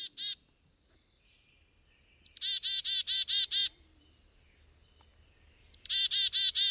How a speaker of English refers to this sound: Oh, yeah, I know that call. I didn't know what it was, but I've definitely heard that call many times. So, what is it about yes. the black-capped chickadee that draws your attention? Well, so note the number of D's in its call at the end,